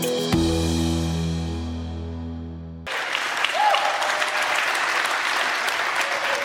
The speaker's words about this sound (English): Well, thank you very much for just clapping. That makes me feel awesome.